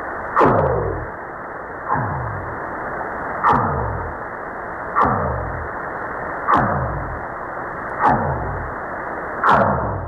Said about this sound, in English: It's a rare whale. It's called the Eastern Pacific right whale, and it's they say there's less than 30 of them left on the planet.